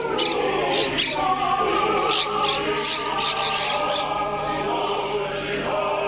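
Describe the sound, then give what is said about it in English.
Many birds in the trees chirp and twitter continuously outdoors at the Vatican, quick high calls overlapping over a steady background of sustained lower tones as a choir of men and boys sings. “The men and boys of the Sistine Choir sang, competing at times with the sounds of birds in the trees.”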